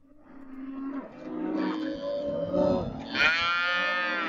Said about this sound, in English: Cows imported from the beef-rich Mexican state of Chihuahua bellow while being separated for shipping or at a temporary station set up in Presidio, Texas, where the animals are now inspected by USDA agents.